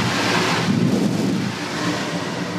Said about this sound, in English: We go through a air shower where it blows off all the dust from your uniform right before you walk into the factory. All right, this should be fun. I've never been in an air shower before.